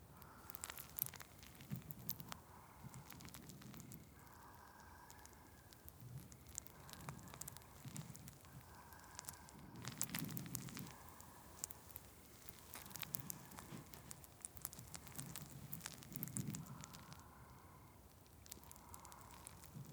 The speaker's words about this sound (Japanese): 炭酸のパチパチって音と感触がお耳を刺激して、だんだんと涼しくなってきますね。